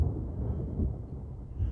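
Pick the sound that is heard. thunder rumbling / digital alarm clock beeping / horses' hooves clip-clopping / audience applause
thunder rumbling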